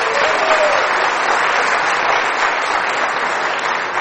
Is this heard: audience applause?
yes